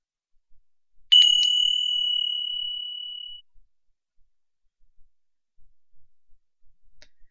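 A single bright bell strike rings out clearly to signal the start of an exercise, its pure metallic tone lingering and slowly fading over a couple of seconds, followed by near silence.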